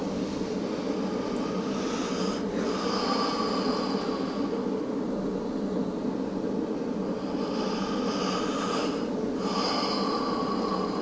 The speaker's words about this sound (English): Let's start first with two deep breaths in and deep breaths out.